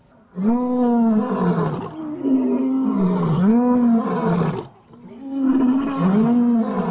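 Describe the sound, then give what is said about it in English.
A pride of 38 lions at a private reserve near Johannesburg roars together in greeting, deep rumbling bellows with rising and falling pitch, overlapping in three loud, sustained bouts separated by brief pauses, with no talking. “This is how the pride greeted us.”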